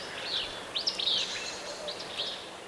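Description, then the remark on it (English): A willow flycatcher repeats its raspy, sneezy fitz-bew song several times, the buzzy high phrases coming over a soft outdoor hiss. “Now the raspy Fitzbew song of a willow flycatcher.”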